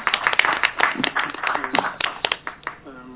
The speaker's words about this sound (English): Thank you very much for your time. Oh, thanks a lot. We can as well give him a round of applause.